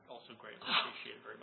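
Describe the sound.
A single short sneeze bursts out midway through during a meeting, moderately loud, over a man's steady speaking voice that carries on around it.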